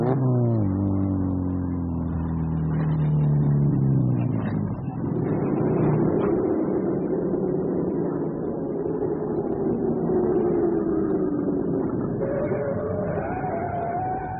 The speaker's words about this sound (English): Another car behind us? Yeah. How did you know? Use my ears.